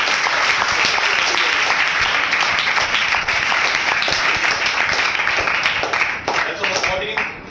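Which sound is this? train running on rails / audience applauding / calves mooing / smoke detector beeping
audience applauding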